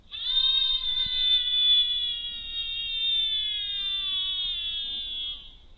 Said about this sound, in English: So it's playing the audio of the screams, and it's also recording the audio, and we're also recording other things like temperature, pressure.